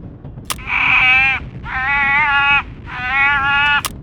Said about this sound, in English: Yep, that's definitely a harbor seal pup. A hungry one from the sound of it.